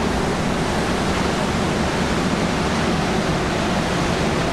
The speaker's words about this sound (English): that water is just beating the hell out of those rocks. I mean, I've never seen surf like this. This is craziness. And it's bright enough that I can see down there really well, you know, down probably 400 yards down this cliff to the sea down there.